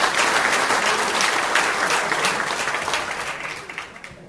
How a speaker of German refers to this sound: Applaus.